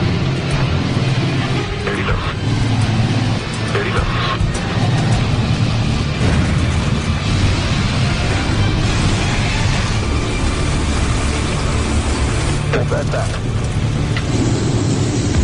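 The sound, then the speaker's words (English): A fully loaded Buffalo Airways C-46 vintage airplane, about 47,000 pounds, landing on an ice runway on a frozen lake, its engines a loud, steady droning roar with heavy low rumble and rattling that fills the whole stretch without letting up. “But they have no idea how thick the ice is and if it can hold the 47,000 pounds of vintage airplane.”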